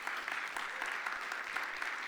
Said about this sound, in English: My in-laws are here with us this weekend, and that is a joy for us. You can give them a round of applause.